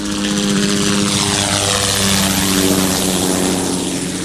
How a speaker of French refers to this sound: À titre de comparaison, le bruit d'un hélicoptère en vol ne génère que 20 pascals environ.